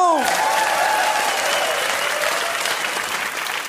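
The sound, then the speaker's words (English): A crowd bursts into loud, sustained applause with whoops and cheers as a performer is welcomed to the front of the stage, steady dense clapping that fades slightly toward the end, with a brief rising whistle-like whoop at the start. “premature whoops, but with more whoops, cheers, and exactly 10 claps each, please welcome to the front of the stage”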